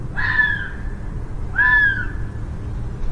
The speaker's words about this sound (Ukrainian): Так лунають лондонські лисиці, яких можна досить часто почути у житлових районах міста, переважно вночі.